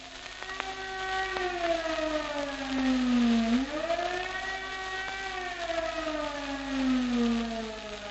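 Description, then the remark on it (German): A German Fliegeralarm (air raid warning) siren signal, which lasts about two minutes, wails steadily, its harmonic-rich tone sliding slowly down and back up in a wavering rise and fall, loud and continuous with no voices present. “Kennzeichnend für das Signal Fliegeralarm ist die gleichmäßig schwankende Tonhöhe, die das Heulen hervorruft.”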